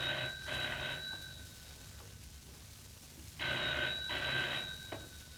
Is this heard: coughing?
no